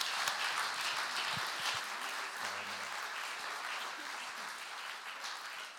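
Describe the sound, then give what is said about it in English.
An audience claps together for a man who has just spoken, in sustained, steady applause, a dense crackle of many hands at even loudness that holds for several seconds, with a faint murmur of voices underneath. “Let's give him a clap.”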